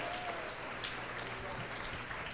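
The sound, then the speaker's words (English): A church audience applauds a woman who shared her testimony and gives a hand clap to the Lord, with steady, dense hand clapping that holds at an even level for a couple of seconds, with no voices standing out. “Well, let's give her a hand clap and give the Lord a hand clap.”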